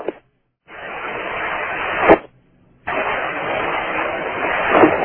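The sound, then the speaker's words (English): A steady, buzzing engine drone runs in two long stretches, cut off by a brief silence, with a slightly rising surge near the end of each, like a car engine in a video game. “Car's coming inside. Hey, car's off.”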